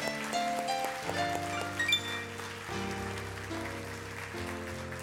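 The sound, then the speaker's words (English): A church audience claps steadily for people who have just prayed a prayer, in a dense, continuous patter of applause. It blends with sustained keyboard or organ chords that shift every second or so. “Let's clap for those people who prayed that prayer.”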